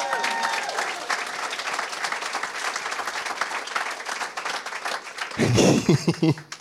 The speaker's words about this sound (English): Yeah, you can applaud for that game too.